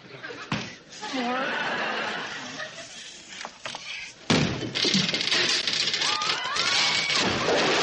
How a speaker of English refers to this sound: Kick the door in.